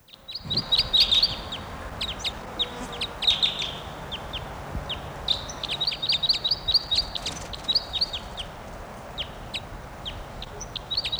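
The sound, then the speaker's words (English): A male bird, logged as bird 713 in a field recording, calls repeatedly, giving bursts of sharp, high-pitched chirps in quick clusters with short pauses between them, over a steady low background rumble. “Just got that bird, male, and he'll be bird 713.”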